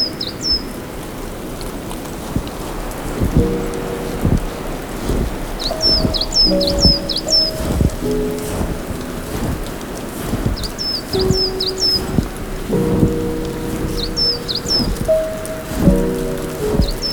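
Clumps of snow drop from branches in scattered soft thuds and patters, irregularly spaced, over a steady outdoor rush, with small birds chirping in brief bursts.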